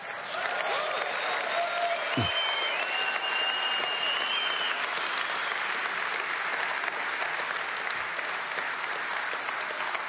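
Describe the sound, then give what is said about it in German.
An audience claps steadily for about ten seconds, a dense, sustained wash of applause with a few scattered cheers or whoops, loud, with no one speaking over it. “Es ist ein guter Trick, wenn man irgendwie Applaus erschleichen kann, kann man schnell ein Stückchen Wasser trinken.”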